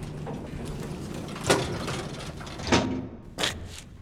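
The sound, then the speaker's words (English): Over a steady low mechanical hum, an elevator door rumbles open on the 7th floor, with a few sharp clunks and rattles as it slides and settles. “7th floor. Door's opening.”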